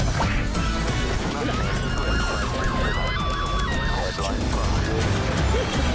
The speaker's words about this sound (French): on en parle après notre jingle spécial Gifle.